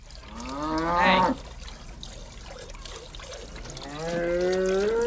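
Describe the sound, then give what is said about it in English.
Cows on a dairy farm moo loudly while being milked, one long bellow rising and breaking off, then another drawn-out moo starting toward the end, with a faint trickle of water in the background. “this is where John Lovitz pays them a visit while they're milking cows”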